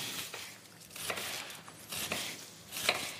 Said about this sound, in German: Ich hack jetzt hier die Zwiebel weg.